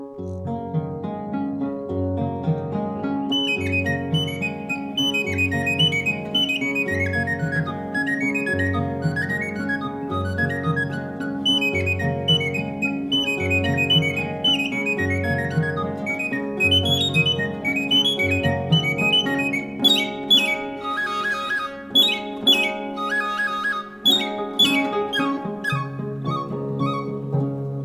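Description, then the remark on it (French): High-pitched little whistles imitate a nightingale, warbling and trilling in quick melodic runs over a steady, low instrumental accompaniment, with a busier, brighter flurry of notes toward the end. “Mais qui sont petites parce qu'elles doivent sonner extrêmement aiguës pour imiter la hauteur de l'oiseau.”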